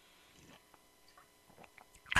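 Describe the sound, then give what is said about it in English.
Someone takes a quiet sip of a drink, with soft wet mouth and lip sounds and a brief louder gulp or clink right at the end. “Take a sip.”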